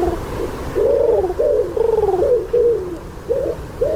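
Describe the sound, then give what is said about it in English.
A pigeon coos repeatedly in low, throaty, rolling phrases, fairly loud, with a steady rhythm of soft warbling bursts over faint background noise. “It's a pigeon.”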